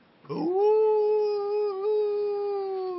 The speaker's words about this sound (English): Can't eat brown things. Brown makes you hear the puppies.